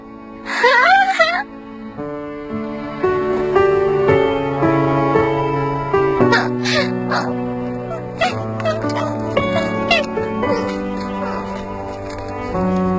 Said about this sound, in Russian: И сколько ты будешь хныкать?